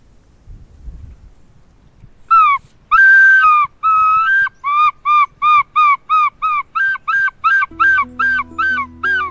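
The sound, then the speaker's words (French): A person mimics bird calls with a rapid series of loud, nasal, harmonic whistled notes, about fifteen in a steady rhythm, clear, with a low hum joining near the end. “Il y a 14 ans, quand on s'est rencontrés, vous étiez déjà en train d'imiter les oiseaux.”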